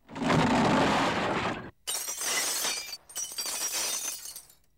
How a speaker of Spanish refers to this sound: Mientras hablaba, se oyó un gran estrépito fuera de las mansiones Luz de Luna, seguido de ruido de cristales rotos.